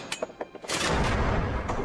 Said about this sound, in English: The trap door opens and Tish drops into the pit, the rope breaking his neck.